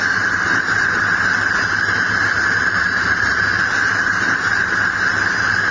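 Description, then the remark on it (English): A simulated tinnitus sound of the 'electric' kind: a loud, unbroken high-pitched whine over a dense hissing crackle, holding steady for about six seconds with no talking. “And this one is called electric.”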